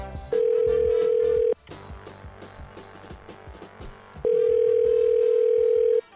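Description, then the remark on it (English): A loud, steady telephone dial tone hums in two long stretches, separated by a pause of about three seconds, over a busy, clattering background, as a phone call is placed to a gym or fitness place. “He collected a bunch of clips of Ron Burgundy and thought, well, I'm going to place a phone call.”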